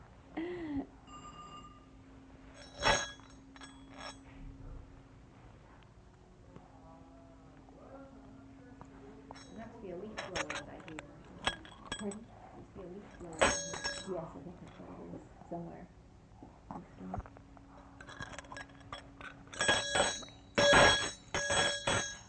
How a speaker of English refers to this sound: What are you doing with that bell?